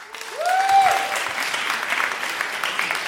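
A crowd applauds steadily, a dense wash of clapping that holds at an even level throughout, with a brief rising whistle-like tone near the start.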